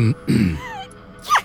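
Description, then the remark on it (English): A single sneeze: a short voiced intake and wind-up, then a sharp, hissy burst near the end. No one speaks. “bless you,”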